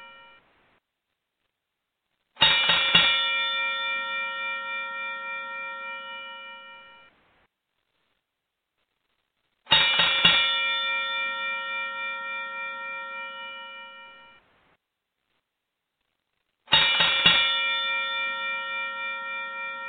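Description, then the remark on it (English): A bright metallic bell is struck three times at slow, even intervals, each clang ringing out loudly and fading over several seconds before the next strike; a three-bell sound rung as part of a 21-bell salute for Shad Gaspard. No one speaks. “I'm going to ring off the three-bell sound 7 times, and we'll have a moment of silence for him afterwards.”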